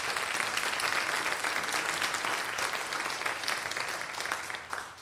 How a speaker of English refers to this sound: We had quite a few in the early service. Got a hand over there. All right. That's awesome. Thank you for your service. Could you lift up a round of applause? Amen.